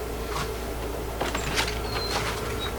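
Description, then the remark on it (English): A screen door creaks open with a few thin, high squeaks and soft rattling clunks, fairly quiet over a steady low background hum, with no talking. “I'm sorry, can you check the door? I think there's somebody there who just doesn't know that you don't knock on a screen.”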